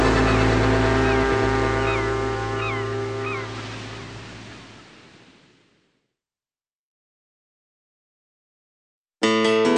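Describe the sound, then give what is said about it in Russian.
Ship horns blare loudly over water in a deep, sustained blast that slowly fades over several seconds. After a stretch of silence, another horn blast abruptly begins at the very end. “Расходились, расставались, синемоли корабли, над водою долго лились их прощальные гудки.”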